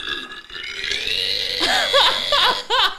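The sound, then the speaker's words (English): A koala bellows, a loud rasping drone breaking into a quick series of belch-like, rising-and-falling grunts toward the end, with no one talking. “That's like a tiger. Yeah, that's a koala.”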